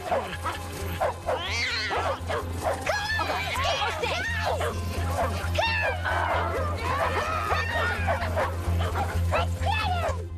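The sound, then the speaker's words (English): Several dogs in a park bark and yip excitedly as they chase after a cat, in a continuous, overlapping frenzy with occasional whining cries, loud over a steady low hum. “runs smiling with the dogs as they chase after a cat”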